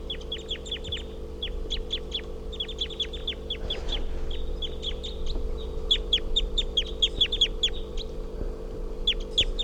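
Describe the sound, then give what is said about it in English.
A female wild bird, identified as 351, calls loudly nearby while hopping around on the ground, giving rapid bursts of short, sharp, high chirping calls that repeat throughout, over a steady low mechanical hum. No one speaks. “And I think these are the calls of 351 here.”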